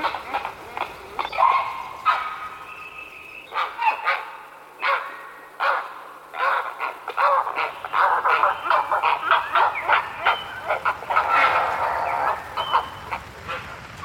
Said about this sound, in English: See, it is a prehistoric bird, a heron. You know, you see these great, you know, creaking wing beats. You know, the fact that the neck kind of doubles in. It does kind of look a bit like a pterodactyl.